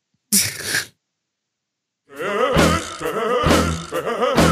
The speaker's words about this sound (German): Ja, vielleicht den einen oder anderen Brüller, den ich rauslassen muss, weil ich perlendes Bier im Bauch habe.